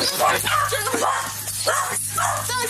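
A friendly dog barks and yips several times in quick, uneven bursts during a Spokane police search, over a steady low electrical hum.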